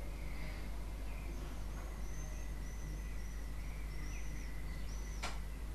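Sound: birds calling outside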